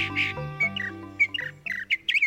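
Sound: northern mockingbird song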